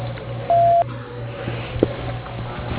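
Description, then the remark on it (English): A single answering machine beep, signalling the caller to leave a name and number. One steady mid-pitched tone lasts about a third of a second, sounding loudly over a low electrical hum and faint line noise, with no voices. “After the beep, leave your name and number, and Ron will return your call as soon as he can.”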